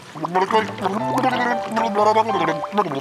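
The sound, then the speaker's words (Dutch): A voice gurgles and warbles through a wavering, sung-like melody, imitating a fish singing underwater with bubbly, throaty pitch slides for about three seconds, fairly loud and without words. “En wat moet dat moeilijk zijn, zo zingen onder water. Ik ga het toch eens even proberen, zeg.”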